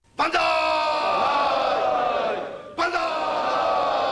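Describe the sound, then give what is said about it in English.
A crowd of Liberal Democratic Party lawmakers in Tokyo, Japan, breaks into a loud, sustained cheer and shout for Fukuda after his selection, fading slightly before a second burst of cheering rises again, with no clear speech. “That's a very enthusiastic cheer from the Liberal Democratic Party for a man that many Japanese expect to be a caretaker, some even joke a butler.”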